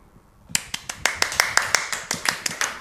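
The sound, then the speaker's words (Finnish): After a brief quiet moment, steady applause begins following a sung performance of a setting of an Edith Södergran poem: crisp, evenly spaced claps at a brisk, regular pace, moderately loud, continuing to the end with no voices. “Ihan tuli sellainen tunne, että uskaltaako taputtaa vai särkyykö tämä herkkä tunne.”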